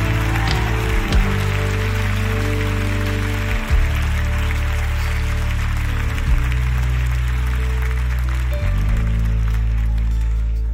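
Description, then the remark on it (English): A crowd claps steadily in praise of the Lord, a dense, continuous wash of hand-clapping layered over sustained low chords that shift every few seconds. No one speaks. “Come on, clap those hands and bless the Lord.”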